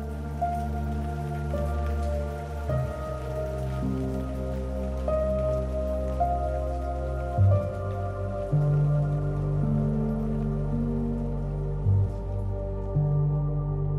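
Steady rain falls and drips continuously over a low, sustained tonal hum, holding an even, moderate level throughout with no voices.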